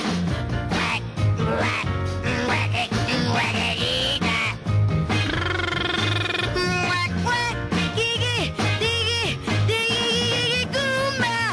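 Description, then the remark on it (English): A brassy, upbeat 1960s-style novelty girl-group pop song, recorded in 1965 and never released, by an unknown singer, plays loud and steady, a female lead voice swooping and wailing over a driving beat, bass and full band backing. “never released when it was recorded in 1965, and nobody knows the singer.”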